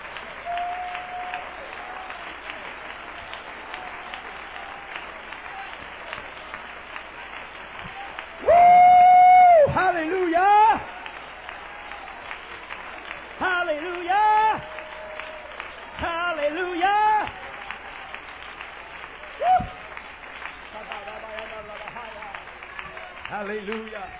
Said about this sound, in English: And let's clap our hands and praise God.